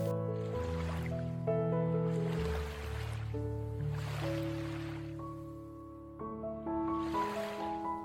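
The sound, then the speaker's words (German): Soft ocean waves swell and recede in a slow, steady rhythm, roughly every two seconds, layered over sustained, gently shifting musical tones. No one speaks. “Nutze für einen Moment ganz bewusst deinen Atem und atme im Takt der Wellen.”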